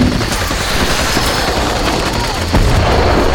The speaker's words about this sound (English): Looks like they got a mortar up and running. The fire corrected, and a shell dropped into the rocks.